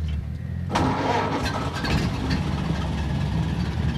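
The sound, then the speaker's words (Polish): An old car engine, after its fuel tap is opened and the power switched on, cranks and catches at once, then settles into a loud, rough, rumbling idle with uneven low-pitched throbbing and occasional rattles. “Odpalimy. Kranik mu trzeba odkręcić. Prąd włączyć.”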